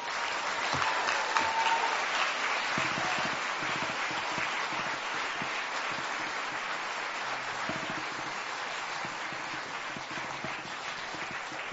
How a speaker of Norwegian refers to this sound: Den applausen og den hojinga er i hvert fall noe å ta med seg inn i det landsmøtet.